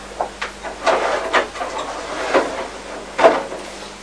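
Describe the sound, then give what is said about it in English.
A door being shut amid a run of short wooden clunks and rattles, irregularly spaced over a few seconds, ending with one firmer knock. No one speaks. “Shut the door so we don't get the cold in.”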